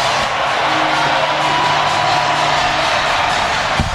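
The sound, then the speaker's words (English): A huge Philadelphia baseball stadium crowd cheers a 4-2 win in Game 3 of the National League Championship Series, a loud, continuous roar, thousands of voices blending into a dense wash of noise with scattered whoops, holding steady for the full four seconds. “Listen to this crowd.”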